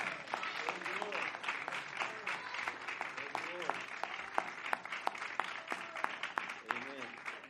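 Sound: audience hand clapping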